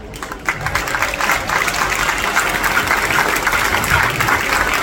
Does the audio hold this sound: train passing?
no